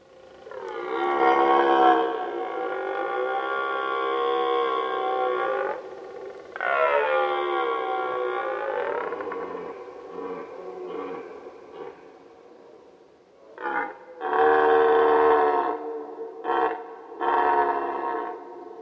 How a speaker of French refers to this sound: C'est le brame des cerfs.